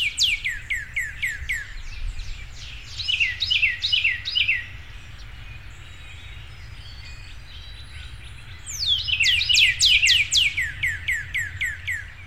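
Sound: northern cardinal singing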